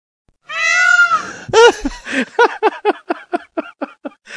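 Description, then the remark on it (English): A peacock calling: one long, loud, nasal wail, then a quick run of about a dozen shorter, sharp cries that gradually fade, with no voices. “You all of a sudden got some wild hair up your ass about that guy saying at all and decided to go find the bird call and fit it.”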